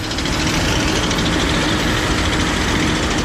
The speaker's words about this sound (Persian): در دامانه های کوهستانی بدخشان، جایی که سالها صدای تشته های فلزی و دسته های تینه بسته در پی دانه های طلا با رودخانه می جوشید، امروز غرشی بیوقع ماشینالات چینی و افراد وابسته به طالبان دل کوها را می درد.